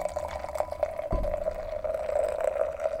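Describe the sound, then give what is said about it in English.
Beer pours steadily into a glass, a continuous gurgling stream with a faint ringing tone and a soft thump partway through, no voices. “I'm pouring more beer.”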